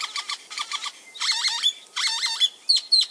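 Great-tailed grackle calls: bursts of harsh, squeaky, rising and falling notes in rapid clusters, some with sharp whistled slides, loud with no one talking.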